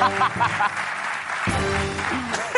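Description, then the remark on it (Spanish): Audience applause on the show La Resistencia, for its props and art team: a dense steady patter of clapping that runs the whole time, with voices and a few cheers rising over it partway through. “Un aplauso para el equipo de Atrezo y Arte de La Resistencia.”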